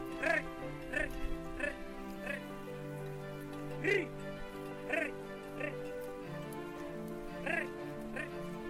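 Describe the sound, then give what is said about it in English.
A flock of fat-tailed sheep in Israel bleating, with short nasal calls repeating at an uneven pace, some overlapping, over a faint steady background hum. No one speaks. “These are the same kind of sheep that we read about in the Bible.”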